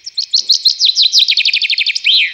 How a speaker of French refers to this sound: Le pinson qui lui aussi est très saisonnier.